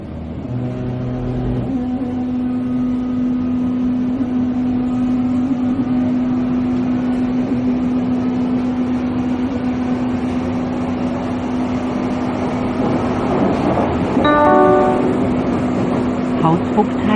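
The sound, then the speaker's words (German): A Berlin U-Bahn line 2 subway train rumbles along with a steady low motor hum and rushing noise, a brief two-tone signal at the start and a chiming electronic tone sequence near the end, with faint voices underneath. “Ja, und dazu fahren wir erst einmal ein bisschen mit der U-Bahn-Linie 2.”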